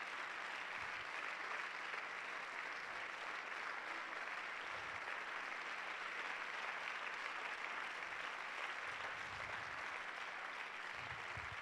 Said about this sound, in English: I wish you'd shout that as good as you clap your hands.